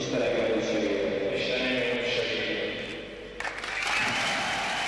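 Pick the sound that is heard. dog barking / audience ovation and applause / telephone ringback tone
audience ovation and applause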